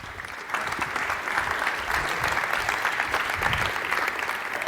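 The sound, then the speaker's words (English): An audience at Congress applauds presenter Thomas Lohninger of Epicenter Works before his talk on 5G and net neutrality: a dense wash of many hands clapping that swells in after a brief quieter moment and holds at a constant, fairly loud level without letting up. “And so please give a big applause to Thomas Lohninger.”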